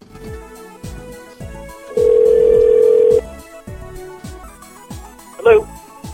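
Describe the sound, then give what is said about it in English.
A telephone line rings out with a single long, steady electronic ring tone for a call placed from a curling club, over a rhythmic beat of soft low thumps, followed by a brief rising electronic chirp. “I'm calling from the curling club.”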